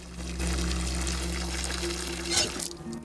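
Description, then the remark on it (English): Water gushes steadily from a tap that Mr. Sir turns on in the desert, pouring out onto the ground, a continuous rushing pour with a low hum underneath and a brief brighter splash near the end. “Sir turns on the tap and lets the water pour out onto the ground.”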